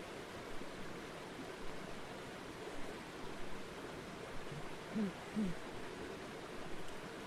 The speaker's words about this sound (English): In this beautiful stream. Sense its quality of consciousness, its experience.